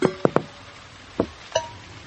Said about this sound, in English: Don't worry. Daddy Pig is using a bucket to catch the drips.